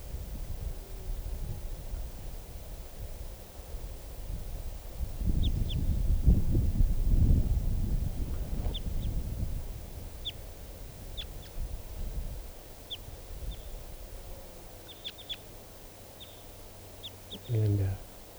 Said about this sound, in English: It's recording 11:33 now, and I've walked over to where the wild bird, the type 2 bird, is sitting on the top of a tree. That's it. Wild bird.